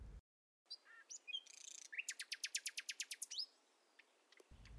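Birds chirp outdoors, a few scattered calls leading into a fast, even run of bright repeated tweets, clear with no one talking.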